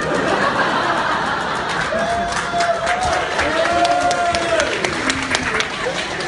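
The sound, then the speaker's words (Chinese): An audience applauds steadily throughout, a dense, even wash of clapping that holds its loudness, with a faint voice drawn out over it partway through. “你听听掌声，听听掌声。”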